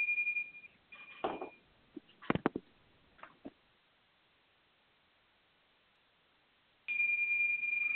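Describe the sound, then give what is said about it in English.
A bright, high chime tone, rung to mark the change between one-minute speaking turns in a group session, rings steadily at the start, followed by a few scattered clicks and knocks, a stretch of near silence, then the sustained chime returns loudly at the end. “And I'm going to ring chimes between the minutes.”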